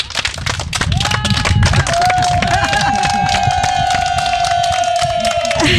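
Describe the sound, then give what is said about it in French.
A live audience at la Fabrique applauds the guests steadily, dense clapping that stays loud for the whole stretch, with a long, high whistle rising over it partway through. “Et j'aimerais bien que nos auditeurs présents ici à la Fabrique vous applaudissent, parce que je pense que vous le méritez.”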